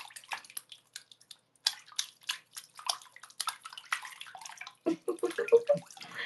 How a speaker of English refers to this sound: You hear that? It's my foot slapping the water.